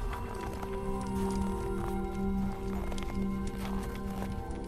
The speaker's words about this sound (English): As those footsteps make themselves known, connection has already recognized them.